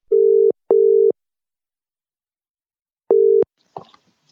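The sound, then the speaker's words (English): A WhatsApp call's ringback tone rings out in two short double bursts, a steady buzzing pitch with a long pause between them, followed by a faint click as if the call is picked up. “Maybe I should phone you on WhatsApp.”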